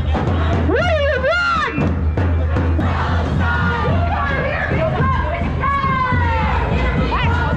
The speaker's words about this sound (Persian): مثل روزهای قبل همچنان معترضان به جنگ در نوار غزه تظاهرات خود را در خیابان‌های اطراف محل برگزاری این همایش برگزار و از بایدن و هریس خواستند تا فشار خود را بر دولت اسرائیل برای برقراری آتش بس افزایش دهند.